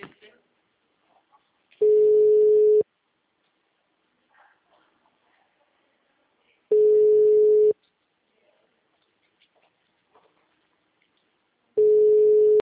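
telephone ringing

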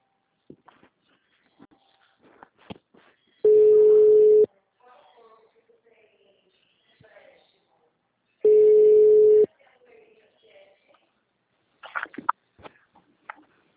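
telephone ringing tone

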